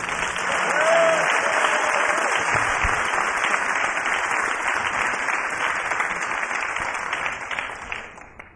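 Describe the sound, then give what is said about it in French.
Sustained audience applause welcoming the first guest, a dense wash of many hands clapping at steady loudness for several seconds before tapering off at the end, with faint voices underneath. “Et applaudir notre première invitée,”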